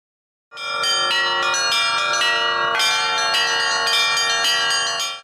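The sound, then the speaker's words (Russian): Church bells ring out in a loud, continuous peal during an Easter procession through the streets of Novosibirsk, with overlapping strikes and a dense wash of ringing overtones that sustains without pause. No voices are heard. “Многократное пение тропаря «Христос воскресе» и колокольный звон огласили улицы Новосибирска.”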